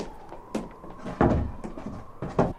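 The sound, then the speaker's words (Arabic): A heavy door creaks and thuds shut as a guard closes it, with a few wooden knocks and rattles as it settles, the loudest impact partway through and a softer clunk at the end. “أيها الحارس، اغلق علينا الباب واذهب لعملك ريثما أستجوبه.”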